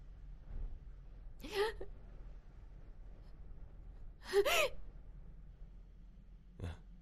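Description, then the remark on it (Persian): Three sharp, breathy gasps at uneven intervals, each a ragged, strained intake of air as if struggling for breath, against a quiet background. “نفس بکش. چی شده؟”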